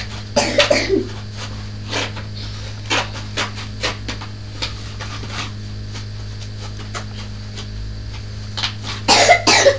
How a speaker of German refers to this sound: Ui, ui, ui, dieser mistige Husten.